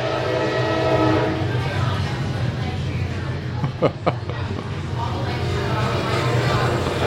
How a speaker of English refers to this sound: Oh, we have a train. This is good. Let's wait for it. Let's wait a moment.